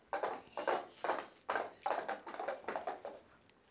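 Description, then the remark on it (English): Horse hooves clip-clop in a steady, even rhythm, about eight hollow clops in a few seconds, moderately loud, with no voices. “He checked A, B, C, and he sent them on a horse.”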